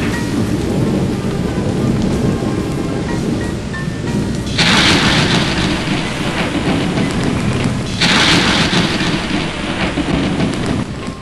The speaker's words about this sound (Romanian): Tunetele nu mai încetau, cerul era luminat de fulgere.